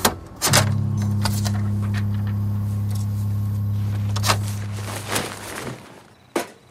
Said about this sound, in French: une Rambler couleur crème de 1961 s'arrête devant le domicile des Jensen